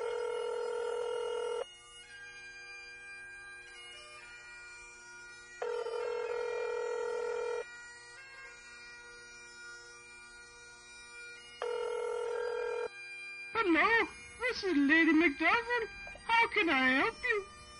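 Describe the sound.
A phone line, dialed from the United States to Ireland, rings out in three long, evenly spaced tones with quiet gaps between them, steady and clear, before a voice comes on the line and starts talking.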